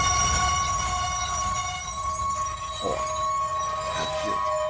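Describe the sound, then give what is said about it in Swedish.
A train braking sound effect: sustained high metallic squealing tones over a low rumble, steady and fairly loud throughout, with brief screeching swells near the end. “Och det betyder att vi bromsar tåget.”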